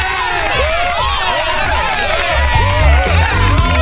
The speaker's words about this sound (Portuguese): Olha só, ela tá com a camiseta da Rádio 80 FM. Para tudo, eu quero palmas.